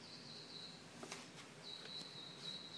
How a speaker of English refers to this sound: Oh, the birds sound really nice outside.